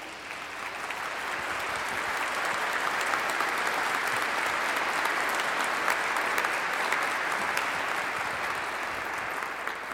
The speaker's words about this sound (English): The people of the archdiocese love you, as is obvious from that applause, and so do I.